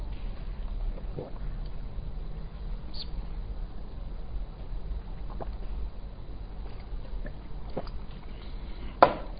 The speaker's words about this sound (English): Just let me drink a bit of water, sorry.